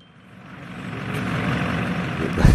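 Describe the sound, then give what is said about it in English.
A school bus engine in Domancy, filmed by pupils, grows steadily louder as it approaches, a broad rumbling roar with no talking, ending in a brief heavier thump. “We start with their film about their school bus.”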